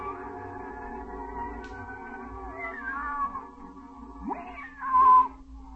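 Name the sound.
cat meowing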